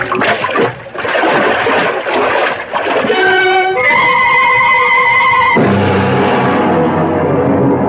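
A loud, churning splash of a man plunging into river water, with rough turbulent noise throughout and a high wailing cry rising briefly in the middle before the rushing water continues.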